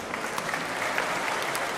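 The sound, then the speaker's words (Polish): An audience claps steadily, a dense wash of many hands applauding at moderate volume without pause for the whole stretch, with no one speaking over it. “brawo dla publiczności.”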